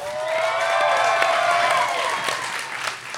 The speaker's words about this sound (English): We're about the halfway point, so why don't we get a round of applause? We'll take a little break.